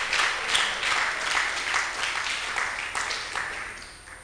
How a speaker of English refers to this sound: Oh, let's clap.